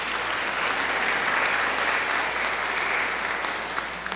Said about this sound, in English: Give her a hand, round of applause.